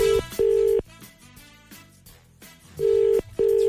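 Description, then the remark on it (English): A phone ringback tone repeats its double-burst pattern twice, two short steady purrs, then a pause, then two more, loud and clear over quiet background music, as the Today FM radio show calls a local honey supplier. “It's ringing.”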